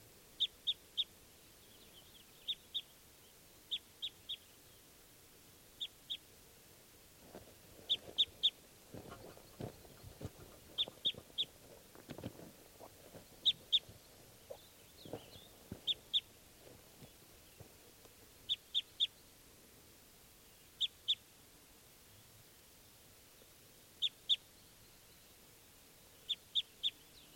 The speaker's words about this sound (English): There goes wild bird number two. So, wild bird number two there was a female. And she just flew off.